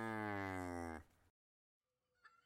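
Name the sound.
cow mooing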